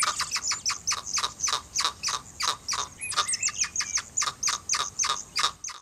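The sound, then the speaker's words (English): A hyrax, a small furry mammal, calls with a steady train of shrill, rasping chirps, roughly three per second, loud with no talking, while a brief higher squeal cuts in partway through. “This is a hyrax.”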